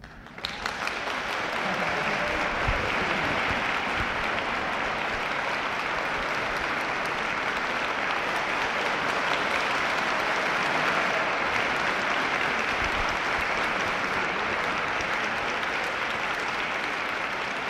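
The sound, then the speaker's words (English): Sustained audience applause, a dense steady roar of many hands clapping that holds at an even, loud level for the whole stretch, with no voices breaking through. “I'm proud of you because the people hearing that applaud won't know that it was for you and not for me, see?”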